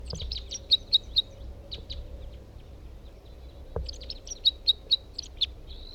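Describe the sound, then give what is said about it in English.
A different male bird sings, two bursts of high, rapid chirping notes with sharp repeated peaks, separated by a short pause, over a faint low background hum. “That's a different bird.”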